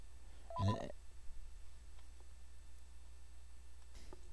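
A single short electronic telephone chirp rings out as a man's wife calls him, then gives way to a quiet, steady background hum with a faint click near the end.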